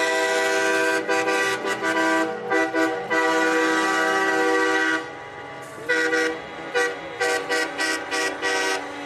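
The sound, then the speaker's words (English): Loud, overlapping truck horns blare almost continuously from a convoy of trucks and vehicles protesting COVID-19 mandates on the Beltway around Washington, D.C., with long sustained blasts giving way to a rapid series of short honks near the end, dominant with no talking. “The People's Convoy of trucks, vehicles, and protesters opposing COVID-19 mandates in Washington, D.C. area today.”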